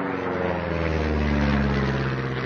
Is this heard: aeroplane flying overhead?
yes